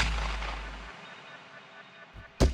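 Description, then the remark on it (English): A rifle shot cracks sharply near the end, loud, after the fading rumble and echo of an earlier blast dies away into near silence; the shots are fired at a deer during a hunt. “Took a deep breath, and I shot again, and...”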